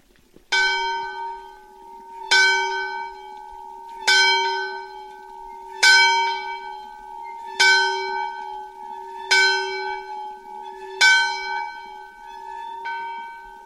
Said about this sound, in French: Je propose qu'on entende le son de la cloche, peut-être ? Allez.